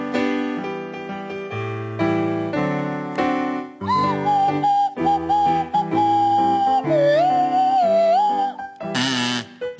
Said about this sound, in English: to feature … on the kazoo, Tony Hawks on the Swanee whistle.